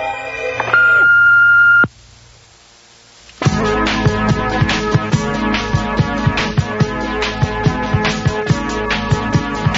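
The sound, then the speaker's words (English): An answering machine gives a steady, high electronic beep over a buzzy hum, then cuts off. A short silence follows before busy, rhythmic music with regular pulses starts and continues. “Wait for it now. Here comes the beep.”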